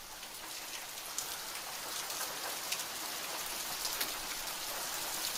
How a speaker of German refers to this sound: Boah, es hagelt, Alter. Boah, ey.